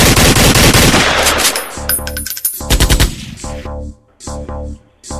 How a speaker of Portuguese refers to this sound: Escutei dois tiros.